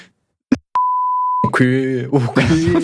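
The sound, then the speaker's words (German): A short, steady censor bleep, one flat mid-pitched tone held for under a second after a brief click, then someone starts talking. “Ah, ich überlege das zu piepen, mich ehrlich.”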